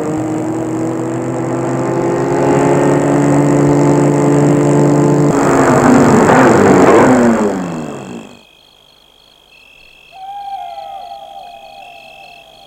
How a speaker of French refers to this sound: va arrêter sa voiture devant l'entrée.